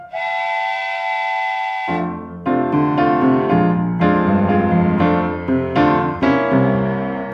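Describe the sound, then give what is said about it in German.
A loud, steady whistle from a train standing at a station blows for about two seconds, then gives way to a series of short, rhythmic tonal blasts of the same timbre. No voices are present. “Am Bahnhof steht ein Zug parat, steig ein, steig ein.”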